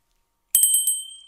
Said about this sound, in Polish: Czas na intro, ale najpierw oczywiście dzwonek mam pod ręką.